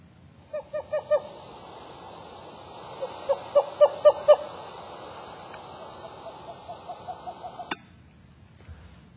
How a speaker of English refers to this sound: Then I played the call of a Western screech owl. It's a very soft call.